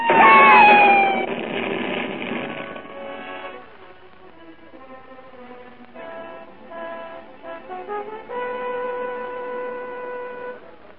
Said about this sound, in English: Cat!